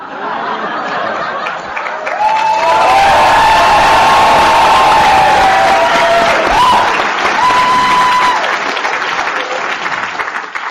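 An audience claps and cheers for about ten seconds, the applause swelling after a softer start, with whistles and whoops rising above the steady clapping before it tapers off.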